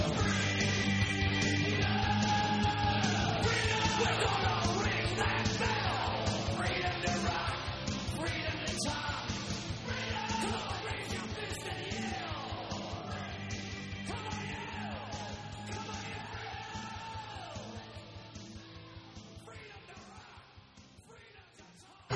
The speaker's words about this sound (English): Freedom! Raise your fist and yell.